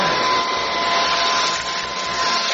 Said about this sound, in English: Hey, watch what you're doing! I'm gonna mess up my vacuum! You vacuumed up my bracelet!